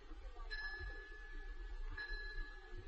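A bell rings twice, about a second and a half apart, each strike leaving a thin, lingering metallic tone that fades slowly over a low background rumble, with no voices.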